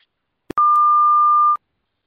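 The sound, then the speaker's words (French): A single steady electronic beep, clear and loud, holding one pitch for about a second after a brief click, then cutting off into silence. “Bonjour le bip sonore, ici la MSAP du Diwa”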